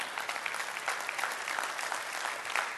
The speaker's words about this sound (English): And you should clap. Yes.